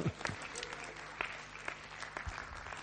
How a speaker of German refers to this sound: Gib mir mal einen Beifall.